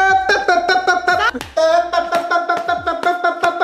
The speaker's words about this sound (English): I was literally just clapping for the audio, but you know, sometimes you just gotta dance it out.